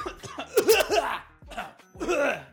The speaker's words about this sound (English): Do I hear somebody coughing?